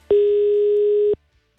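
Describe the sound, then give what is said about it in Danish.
A single steady electronic phone ringing tone of an outgoing phone call, lasting about a second, clear and fairly loud, starting and stopping abruptly, followed by quiet line hiss. “Skal vi ringe til ham, og så er det derfra, at jeg skal snakke i 2 minutter fra.”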